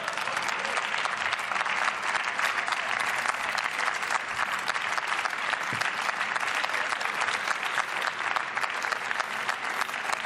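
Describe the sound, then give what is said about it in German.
Sustained cross-party applause in the German Bundestag, a dense, steady clatter of many hands clapping that holds at an even loudness for the full ten seconds, with no speech over it. “Und Sie sehen es am fraktionsübergreifenden Beifall, dass dies auch im Haus entsprechend getragen wird.”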